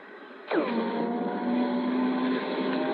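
An electric car on a test drive pulls away and drives steadily, its drive chain giving off a sustained mechanical whine over low road rumble. A brief falling sweep marks the start, then the whine holds.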